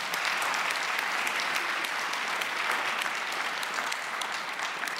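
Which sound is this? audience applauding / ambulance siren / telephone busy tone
audience applauding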